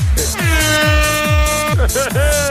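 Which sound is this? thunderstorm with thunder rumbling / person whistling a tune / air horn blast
air horn blast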